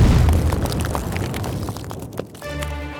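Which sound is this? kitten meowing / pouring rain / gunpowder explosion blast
gunpowder explosion blast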